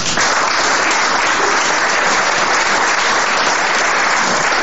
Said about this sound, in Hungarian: úgyhogy fogadjuk nagy tapsal és szeretettel.